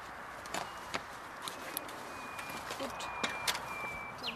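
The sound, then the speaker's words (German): A common nightingale sings faintly from undergrowth in a park near a Soviet war memorial, at night around 23:50 on 17 April 2013: thin, drawn-out whistles and a few sharp clicking notes, quiet over soft outdoor rustling. “Und tatsächlich, im Unterholz singt die Nachtigall.”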